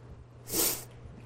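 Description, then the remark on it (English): A single quick sneeze bursts out, a sharp breathy hiss lasting about half a second, over a low steady hum with no talking. “God bless you”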